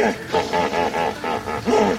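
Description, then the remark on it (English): Hippo calls in a run of deep, harmonic grunting honks, about five or six pulses in quick rhythm, loud and throaty with a wheezy, rising quality and no voices present. “We're listening to the sounds of hippos, and while these calls are impressive, even more remarkable are the sounds they make that you can't hear.”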